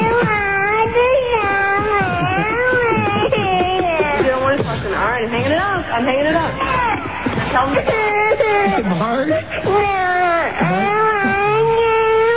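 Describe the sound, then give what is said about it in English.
A cat meows and wails continuously and loudly, with long wavering, whiny cries that rise and fall one after another for the whole stretch. “Sounds like a cat.”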